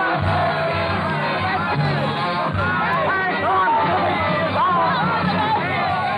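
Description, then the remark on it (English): An angry mob with raised pikes shouts and chants in the street, the Rue Saint-Nicaise, in a loud, continuous roar of overlapping voices, rising and falling with agitated energy, dense throughout. “Ragged, bearded patriots, eyes hot with the lust of battle, swarm madly in the Rue Saint-Nicaise, their pikes raised high in the air, their voices lifted in a hoarse hymn of hate.”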